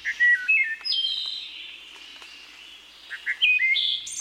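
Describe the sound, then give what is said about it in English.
A wood thrush sings: clear, flute-like phrases rising and falling, ending in trilling notes, with a pause before another phrase begins. No talking. “Some believe the song of the wood thrush to be the most beautiful bird song in North America.”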